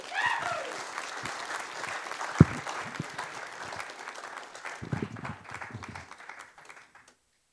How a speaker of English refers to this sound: Thank you. Thank you for sharing. Give her a big clap.